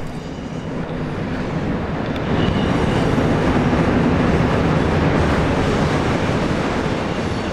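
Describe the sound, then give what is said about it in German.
A train rumbles past, a loud, steady roar of wheels and rail noise that swells after a couple of seconds and stays heavy throughout, with no voices. “Jetzt kommt ein Zug.”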